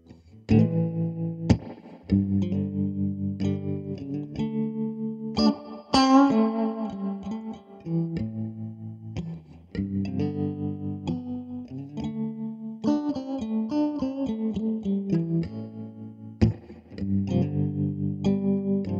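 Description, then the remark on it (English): Electric guitar played through effects, with sustained chords and ringing notes that shift every couple of seconds, a steady full level and no voices throughout. “Here's some guitar.”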